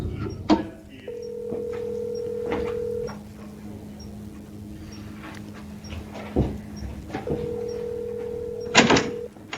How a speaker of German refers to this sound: geht nicht ans Telefon.